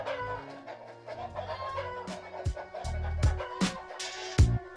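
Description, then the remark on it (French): Roosters cluck and squawk at a cockfight in Thailand amid a busy, scuffling commotion. Sharp bursts and low thumps repeat irregularly throughout, with no clear talking. “Voilà donc ce combat de coq du côté de la Thaïlande, mais en réalité c'est dans toute la région qu'on va retrouver ces pratiques.”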